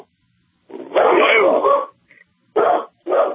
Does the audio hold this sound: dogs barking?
yes